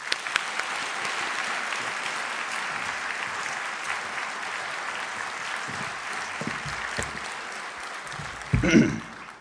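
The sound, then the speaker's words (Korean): A church audience at Samil Church claps steadily and warmly for the whole stretch, welcoming a pastor as he comes out to preach: a dense even wash of applause from many hands, with a brief louder bump near the end as it winds down. “특별히 우리 3일교회를 사랑하는 마음으로 이제 오늘부터 말씀을 증거해 주시겠는데 나오실 때 힘찬 박수로 맞아 주시기 바랍니다.”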